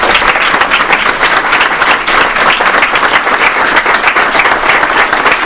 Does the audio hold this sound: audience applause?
yes